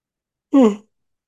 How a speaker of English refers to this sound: Yawning is not about fatigue, it's about energy movement.